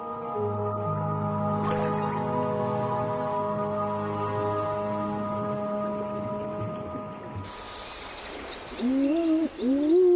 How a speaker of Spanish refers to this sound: En los bosques cercanos al río también podemos encontrar búhos reales. Esta hembra de búho real tiene polluelos.